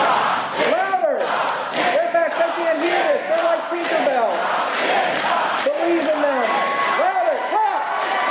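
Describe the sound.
A large crowd chants a two-syllable name together, over and over in a steady beat, their many voices loud and rising and falling with each repetition.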